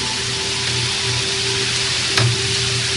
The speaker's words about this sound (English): While you hear the rain, the tranquility of nature wending its way through this broadcast.